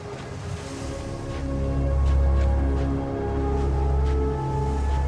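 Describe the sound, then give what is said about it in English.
A steady light wind blows and rushes without pause over desert sand dunes, making the sand rise and flow, carrying a deep low rumble and a faint hollow drone, swelling slightly midway. No one speaks. “A light wind causes the sand to rise and flow like a shallow, misty river over the banks and undulations of the dunes.”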